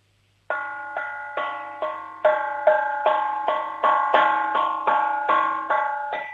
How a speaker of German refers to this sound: Was war denn das für ein Kochtopf? Der klingt ja fast wie eine Kirchenglocke. Ist der groß? Nein. Nicht? Aber der hat einen schönen Klang.